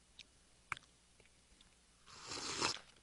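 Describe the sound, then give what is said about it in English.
Eating a spicy snack: a few faint clicks and bites, then a louder, wet crunching and chewing burst near the end, with no talking. “I swallowed it.”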